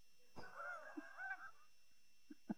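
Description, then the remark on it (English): A voice imitates snoring with one drawn-out, raspy, honking snore lasting about a second, followed by a few short, soft snorts. “With snoring.”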